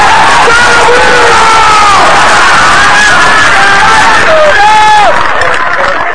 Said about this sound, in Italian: Ebbene, vorrei un grosso applauso, un grosso sorridere per lui!